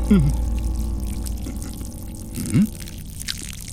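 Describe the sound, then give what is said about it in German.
Water is poured in two short bursts, each with a quick rising gurgle as a vessel fills, over a steady low background hum. “Wasser willst du?”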